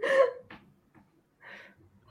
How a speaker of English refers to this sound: Hiccup.